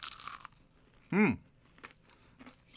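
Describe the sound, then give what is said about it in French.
A crisp bite into a crunchy chicken nugget, eaten without sauce and seasoned with garlic and pepper, followed by a short burst and then quieter chewing noises. A brief voiced murmur sits in the middle. “Mais là, il faut goûter à ça. Pas de sauce, là?”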